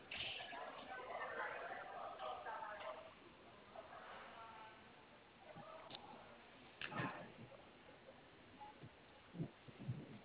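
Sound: phone vibrating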